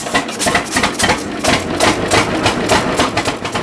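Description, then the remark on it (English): The engine of an old tractor, nicknamed Tractor Grandpa and bought new in 1937, runs with loud, steady chugging beating out a quick, even rhythm of sharp mechanical knocks with no voices over it. “We call this Tractor Grandpa because back in 1937, my dad and my grandfather bought this tractor. It was new.”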